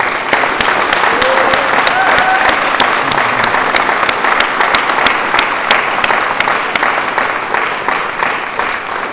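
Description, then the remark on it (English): An audience at a group meeting claps steadily for several seconds, dense overlapping hand claps holding at a strong, even level before easing slightly toward the end. “In closing, can we just get another round of applause from her?”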